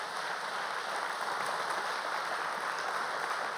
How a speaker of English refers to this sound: you go ahead and cheer for her